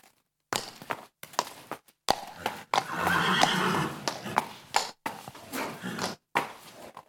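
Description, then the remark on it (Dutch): A stallion in the neighbouring stable box neighs loudly and repeatedly, long whinnies broken by short pauses, with faint hoof shuffles and a brief snort, as another stallion, Boebeloe, is led into the stable beside him. “Maar ik denk, kijk, zijn buurman die begint al.”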